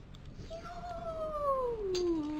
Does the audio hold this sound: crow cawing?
no